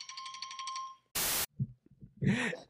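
signal or alarm, phone ringtone going off

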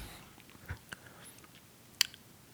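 food or drink, sipping a soda drink

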